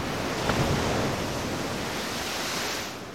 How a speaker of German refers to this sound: Wieder Palmen, wieder Strand. Doch im Gegensatz zur ruhigen Lagune krachen hier die Wellen des Pazifiks, des größten Ozeans der Welt, ungestüm auf das Riff.